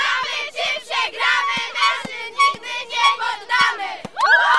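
A loud crowd of fans in the fan zones of a running race cheers and shouts in rhythmic, chant-like bursts, with dull low thumps marking a steady beat underneath and a rising shrill whoop at the end.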